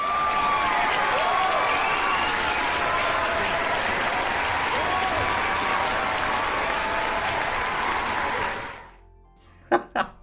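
An applause sound effect: a large crowd applauds loudly and steadily for about nine seconds, a dense wash of clapping that cuts off abruptly, followed by a short silence and a brief voice sound at the end.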